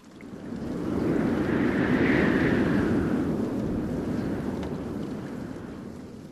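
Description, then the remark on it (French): A steady rush of wind swells over the first second or two, holds as a broad, breathy roar, then eases slightly toward the end, with no voices. “Non, le vent, ça fait comme ça.”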